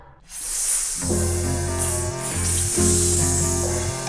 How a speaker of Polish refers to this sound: Coś tutaj syczy, coś tu się kłębi. Jesteśmy węże, jesteśmy żyje. Gady oślizgłe, gady niczyje.